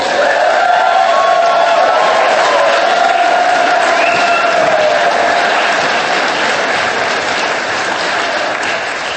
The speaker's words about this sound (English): Huge round of applause for our gracious, gracious mayor.